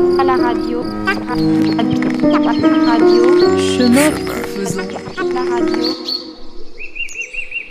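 A dense chorus of birds chirping and calling over one another, with crickets, fairly loud, in a regional natural park. It thins out near the end, leaving a faint, pulsing high-pitched trill.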